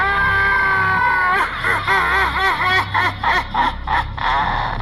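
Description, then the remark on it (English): A woman lets out a loud, piercing scream, holding one shrill note before it breaks into rapid, quavering pulses that rise and fall, with no talking around it. “And wouldn't you know it, she screamed again.”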